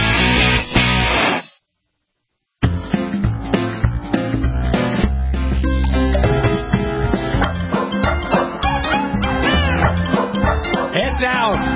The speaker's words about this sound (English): After the hour, those damn dogs. Can you keep them quiet, Warren, please, while I try to introduce you? Too much barking, too much fun.